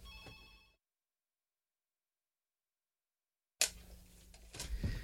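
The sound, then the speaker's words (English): A short electronic phone ring cuts off abruptly into dead silence, followed a few seconds later by rustling and handling clicks as the phone is unplugged. “Hold on, I have to unplug my phone real quick.”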